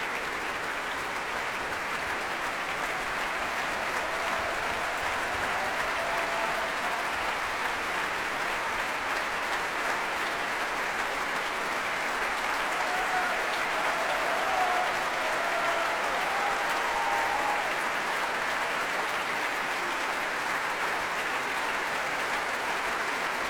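concert audience applause

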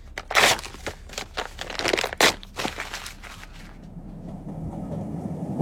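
moving train interior

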